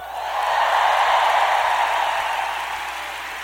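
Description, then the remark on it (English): Steady applause from a large audience applauding sponsoring organizations for their support, a dense wash of clapping that swells quickly, holds for a few seconds, then slowly tapers off without any voices. “As we applaud these organizations for their great support, let's include a big hand as well for the 80,000 contributors to this uniquely American effort.”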